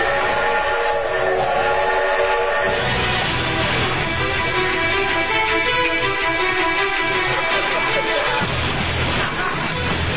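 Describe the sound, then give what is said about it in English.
A loud, sustained train whistle blares over the steady rumble and clatter of a passing train, its harmonic tone holding for several seconds without any talking. “At that moment, Johnson heard the imminent whistle from the train of destiny.”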